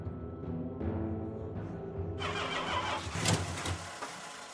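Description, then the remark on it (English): A car engine cranks over and over in loud bursts, the starter grinding rhythmically without the motor ever catching, followed by a rougher, noisier stretch of churning. “The motor won't start. Somebody must have meddled with this car while we were in the house.”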